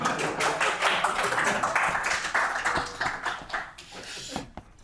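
Audience applause: a dense, steady patter of many hands clapping at once, sustained for a few seconds before thinning out and fading near the end. No one speaks.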